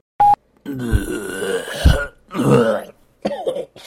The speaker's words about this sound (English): Oh, gross. Just be glad you're not seeing this. That was terrible, what I just coughed out of my lungs.